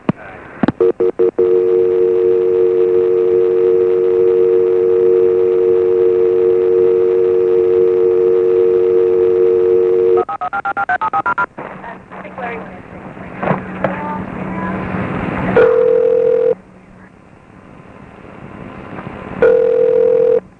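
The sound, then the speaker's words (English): A steady telephone dial tone hums for about ten seconds, then a quick run of touch-tone dialing beeps as a call is transferred to another number, followed by crackly line noise and a short ringing tone; recorded on September 11, 2001. “I'm going to try and transfer you to another number.”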